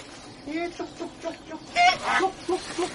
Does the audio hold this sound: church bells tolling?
no